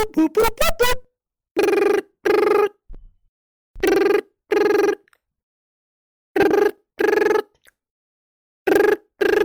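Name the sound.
telephone ringing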